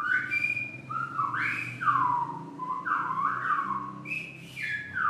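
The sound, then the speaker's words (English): Silbo whistled language: a loud, continuous run of piercing whistles that swoop up and down in pitch, rising and falling in speech-like phrases over a low steady rumble. “But today there's little practical use for the silbo, what with cell phone and internet coverage just about everywhere.”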